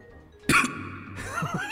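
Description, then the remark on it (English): One short, sharp cough bursts out loud, followed by a second of raspy, breathy throat sounds that trail off. “The Lord of the Void just coughs every now and again.”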